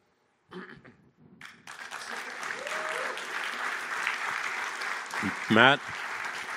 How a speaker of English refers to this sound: is very big on clapping and getting energy back from the audience, so I don't care. So after any time he stops talking, if you could just give him some energy back, and I'm good.